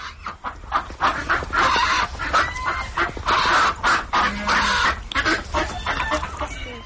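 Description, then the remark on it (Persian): Ducks at a zoo on a cold, snowy day quack over and over in a loud, rasping chorus, their harsh overlapping calls coming in quick bursts without a break for several seconds, with no voices. “تنها از جا جای صدای گاه مرغابی و گاه سگ را شنیدن ممکن است که در بیستلو منزل‌های خود روی برف برخی خوابند و برخی دیگر گویا از سردی در جای نایستاده به هر سو حرکت میکنند.”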